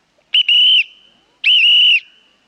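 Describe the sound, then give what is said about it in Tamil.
A husband who has stopped speaking whistles two loud, sustained notes, each about half a second with a slight pitch bend, separated by a brief pause, with no talking around them. “Whistle என்ன இப்படி behave பண்றாரு?”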